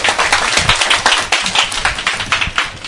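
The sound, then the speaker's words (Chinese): An audience claps steadily for a few seconds in applause for a friend, a dense patter of many hands making a bright, even crackle with small swells in loudness and no voices over it. “麻烦你给掌声这位朋友好吗？”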